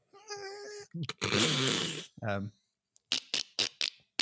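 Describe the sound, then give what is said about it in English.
A voice imitates dolphin noises: high squeaky whistles, a buzzy raspberry-like burst and a clicky chatter, followed by a series of short sharp clicks in quick succession. “That was dolphin.”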